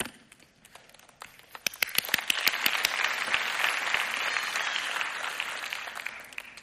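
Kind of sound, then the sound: crowd, audience clapping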